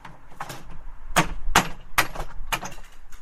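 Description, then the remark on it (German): Sharp hammer blows strike wood in an uneven rhythm, about six or seven loud impacts with bright, cracking attacks, as a father and son knock nails out of wooden slats to dismantle a sukkah on the Tuesday after the Feast of Tabernacles. No one speaks. “hämmern die Nägel aus den Latten und bauen die Hütte ab”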